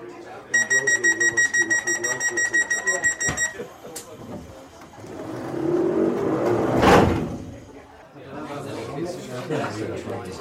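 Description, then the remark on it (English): A rapid electronic door-warning beep sounds for a few seconds, then the doors of a two-carriage Viva Rail electric train, a former London Underground surface stock train, thud shut, followed by a rising whoosh and rumble as the train pulls away. “Very similar to being in an electric car. There's no sound whatsoever. And the train just starts to move.”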